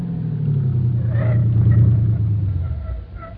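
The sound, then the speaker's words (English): A car pulled up alongside a phone booth idles with its engine left running, a steady, low rumbling hum that drifts slightly lower in pitch, holding an even loudness before easing off at the end. “You better just leave the engine running, Grace.”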